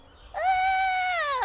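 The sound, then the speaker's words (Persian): A puppy, Copper, lets out one thin, high howl while trying to howl like a hunting dog. The howl sounds like a toilet flush: it swells quickly, holds steady for about a second, then droops at the end. It is fairly loud, with no talking. “این که صدای سیفونه، گفتم زوزه.”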